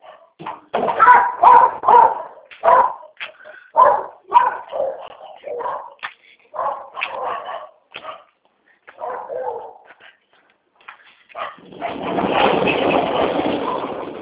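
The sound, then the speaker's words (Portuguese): A female dog barks in a rapid string of short yips and whines as a gate is opened, pausing briefly between bursts, before a steady rushing noise takes over at the end. “Só vou encostar aqui por causa da cachorra.”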